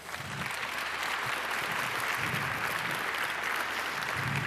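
Sustained audience applause fills the room, a dense, steady wash of many hands clapping at a constant level throughout, with no one speaking.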